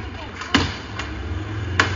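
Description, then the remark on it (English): Two sharp, heavy thuds of a club striking a stopped car ring out about a second apart, with a fainter knock between them, over a steady low engine rumble and faint background voices, as a crowd attacks passing cars. “You heard the club striking the car twice.”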